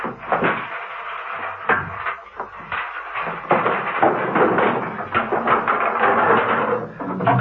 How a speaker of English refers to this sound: A young man was searching frantically through the hi-fi equipment, turning out long playing records from their racks, tipping tapes onto the floor, becoming more frantic as the minutes sped by.